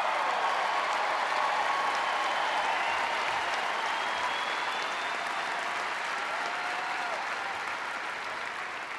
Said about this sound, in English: a lot of applause there.